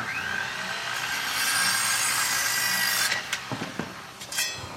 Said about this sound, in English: Michael gestures towards the house, now being repaired by a construction crew.